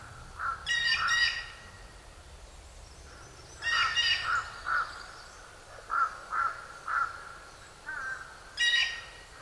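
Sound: blue jay calling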